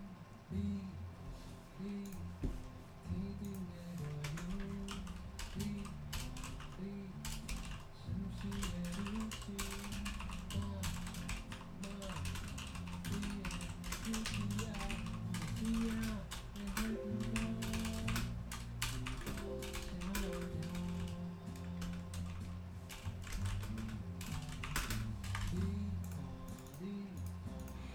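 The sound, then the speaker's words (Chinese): Steady, rapid keyboard typing clatters for the whole stretch, a dense run of quick clicks layered over soft background music, recorded in a microphone test with the mic about 10 cm in front of the speaker's mouth in cardioid pickup mode. “讲话跟就是键盘收音的状况”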